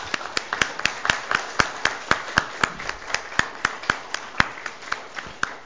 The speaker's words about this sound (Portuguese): Presidente, posso pedir uma salva de palmas?